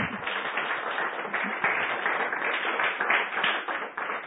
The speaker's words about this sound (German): Ich glaube, wir können einmal mit einem Applaus anfangen, dass wir warm werden.